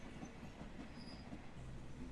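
Steady rumbling ambience inside a moving train carriage, a continuous low roar with faint rhythmic wheel clatter and a thin high whine, no voices.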